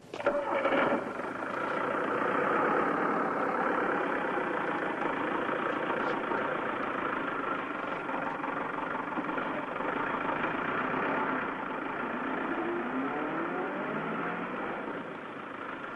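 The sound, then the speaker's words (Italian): Heavy engines of buses replacing trains idle steadily for the whole stretch, with a rising engine note near the end as one of the buses pulls away. No one speaks. “Guardi che c'è un servizio di autobus che sostituiscono i treni, stanno partendo.”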